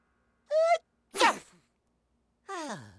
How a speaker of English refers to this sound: Gesundheit. Which, interestingly, means good health in German. Ja! Sneeze if you have to. Sneeze if you need to.